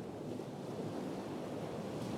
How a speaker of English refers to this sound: So when I go to sleep, and this isn't me personally, but some of you prefer sound of the waves on the shore, like this.